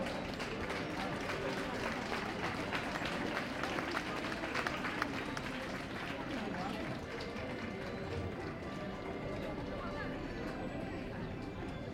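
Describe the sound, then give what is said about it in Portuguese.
A crowd applauds a young folk group with concertinas from Forte da Casa, Lisboa. The clapping is dense and steady, holding at an even, fairly loud level for the whole stretch, with voices murmuring underneath. “Olha, uma salva de palmas para Lisboa.”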